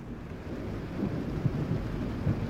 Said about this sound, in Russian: Гроза.